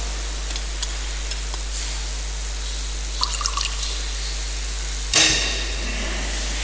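A short splash of water poured into wine in a chalice during Mass, brief, after a few faint clinks over a steady low hum.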